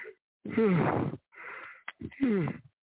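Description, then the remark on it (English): Two long, voiced yawns, each sliding downward in pitch, separated by a breathy inhale and a brief sniff. No talking, just the drawn-out groaning breaths. “I'm doing them yawning again, man.”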